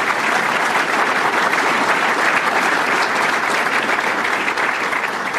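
A crowd claps steadily and loudly for Mayor Steve Cherico for several seconds, a dense, continuous wash of hand claps with no voices standing out.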